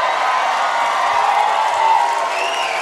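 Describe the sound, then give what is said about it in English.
A large hometown crowd in Boston, in a hall with a double balcony, cheers loudly and steadily, a dense roar of voices with scattered whoops rising above it and no clear speech. “Jason, it's a hometown crowd for you.”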